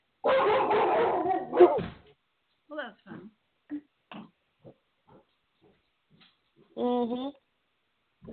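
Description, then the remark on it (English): Dogs bark and whine: a loud, drawn-out burst of yelping opens, followed by scattered short, sharp yips and one more tonal bark near the end, with quiet gaps between. “I think your dogs are barking because we're talking about men, because they're all dogs.”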